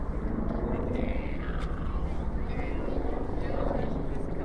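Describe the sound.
A tourist helicopter drones overhead above Manhattan with steady rotor thumping and a low rumble, continuous and moderately loud across the scene, with faint voices mixed into the outdoor background.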